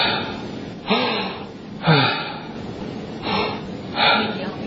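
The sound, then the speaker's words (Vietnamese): Several short, breathy exhalations in a loose rhythm, about four audible bursts of air, short out-breaths with faint background noise between them and no speech. “Ngắn tức là con nào? Thở ra.”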